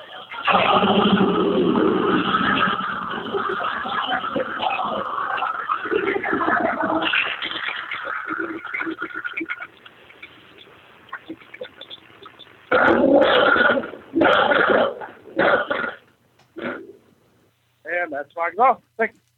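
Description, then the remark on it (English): A car fitted with a long-tube cold air intake, a high-flow cat, a Borla Attack exhaust and 3.73 gears starts up and rumbles steadily, then fires off several sharp, loud revs with short pauses, all sounding thin and muffled as if over a phone line. “air inductions, cold air intake with fixed long tube, a high flow cat, and Borla Attack exhaust. With 373 gears and a Barton shifter and a JBL sound system and a few other things like the AAC style lighting in it.”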